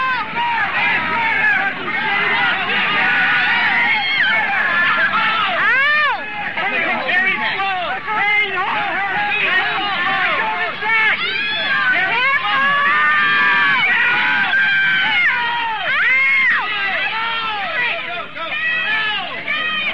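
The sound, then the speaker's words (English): A loud, dense protest crowd commotion at San Francisco's Union Square, with many overlapping raised voices shouting and screaming as people are grabbed by their hair, a man's pained yelling mixed into the continuous chaotic din throughout. “They're grabbing people by their hair now. I see a man, he's yelling in pain.”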